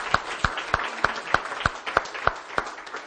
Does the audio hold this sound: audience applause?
yes